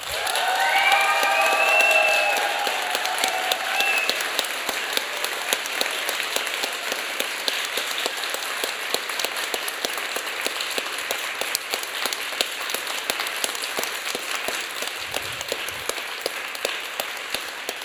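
Sustained audience applause at a poetry slam, voting for a poet to reach the final, a dense crackle of many hands clapping steadily for the whole stretch, with a few whistles and cheers rising early on before settling into even clapping.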